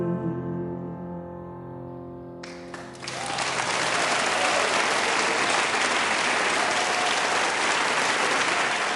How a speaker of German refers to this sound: Applaus für den deutschen Preisträger beim diesjährigen Salzburger Stier.